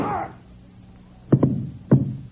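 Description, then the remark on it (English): Three sharp gunshots ring out, a quick pair followed by a single shot half a second later, each with a short booming decay after a brief quiet lead-in. “If you hadn't shot first...”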